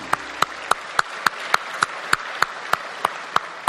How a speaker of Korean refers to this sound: 우리 바나바 위해서 박수하시죠.